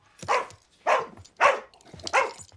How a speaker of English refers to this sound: Get him out! That's a cheek, asking Dad to look after a rescue dog. That's a sheep dog